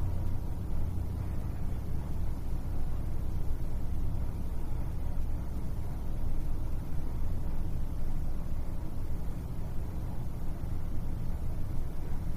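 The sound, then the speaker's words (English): A steady low hum of air conditioning, with a faint, continuous rumble of traffic from outside underneath it. No one speaks. “Direct your attention to the sound of the air conditioning and the traffic outside.”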